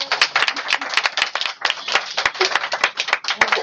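An audience applauds steadily, many hands clapping in a dense, continuous patter with sharp individual claps popping out, fairly close and loud throughout.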